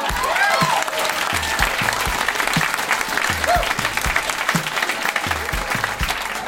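An audience applauds steadily, a dense wash of many hands clapping at a loud, even level for several seconds, with faint voices and cheers mixed in.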